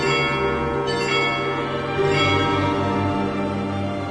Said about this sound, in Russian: граб Тобольск стоит порукою, куполами золочеными, возвышаясь в небо синие, колокольным звоном радуя всякого, кто в Бога верует. По реке тот звон разносится вниз и вверх на версты многие.